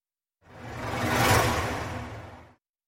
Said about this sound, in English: There's something else instead. The gentle, inviting patter of rain.